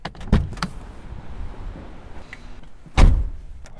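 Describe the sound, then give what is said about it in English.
A side exit door opens with a sharp click and thump, followed after a few seconds of quiet room noise by a louder, heavier thud as it shuts. “Let's sneak out this side exit.”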